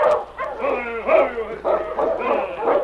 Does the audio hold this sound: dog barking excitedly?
yes